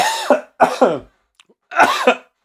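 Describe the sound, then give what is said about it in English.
Several harsh coughs in quick bursts: a pair, then a short pause, then another couple of throaty coughs, with no speech around them. “We can leave that cough in.”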